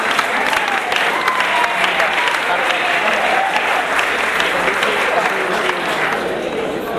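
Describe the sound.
A crowd claps steadily and loudly for several seconds, a dense, continuous wash of hand claps that neither builds nor fades, with a few voices faintly mixed in underneath.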